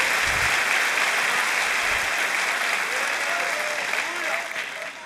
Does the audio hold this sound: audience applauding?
yes